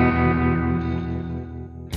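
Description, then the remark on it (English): A loud, eerie electronic signal from space, said to come from Venus, drones steadily with layered warbling tones and a processed, echoing quality, ending in a short burst of hissing radio static. “There's no reason that Venus shouldn't radiate impulses. I don't mean the static.”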